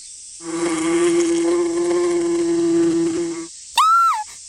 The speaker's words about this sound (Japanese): 蜂が飛んでいます。